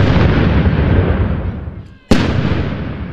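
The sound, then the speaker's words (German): Two loud booming cannon salute shots fired as greetings for the British Queen's last birthday, the first rumbling and decaying over about two seconds, then a second sharp blast that rings out strongly, heard outdoors with no voices. “Ja, und es gibt Salutschüsse, ne?”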